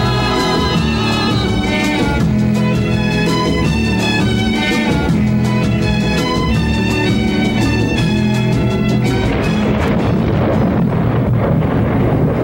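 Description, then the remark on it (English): A loud, sustained rumbling crash like thunder roars throughout with no break, layered with dense tonal ringing that thins out near the end into rougher noise. “Loud crash and thunder awakened him.”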